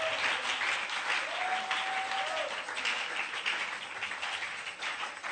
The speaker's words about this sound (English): Are you clapping, people? Are you clapping, people? Are you clapping?